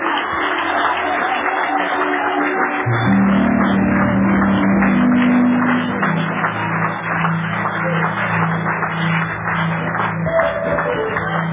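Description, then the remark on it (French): An audience claps loudly for themselves and continuously in a dense, steady wash of applause, joined after a few seconds by sustained low musical tones that hold beneath the clapping to the end. “Maintenant, vous applaudissez fort pour vous-même.”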